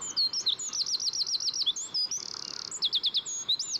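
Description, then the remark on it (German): A small songbird, no bigger than a small child's hand and weighing about 10 grams, sings a loud, rapid trilling song that can carry up to 500 metres. Bright repeated notes tumble in quick succession, with a fast buzzing trill in the middle. The song is clear, with no talking. “Bis zu 500 Meter weit kann man seine schmetternden Trillermelodien hören.”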